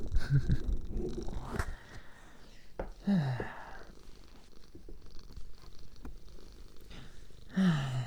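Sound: cat purring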